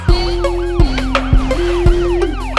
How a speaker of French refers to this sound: J'entends les sirènes de la police. J'entends les sirènes de la police. J'entends les sirènes de la police.